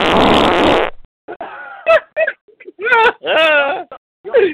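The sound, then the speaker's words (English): A loud, sputtering fart sound effect lasts about a second, followed by several short squeaky, whimpering bursts that rise and fall in pitch. “We don't need any effects. We just need the fart sound.”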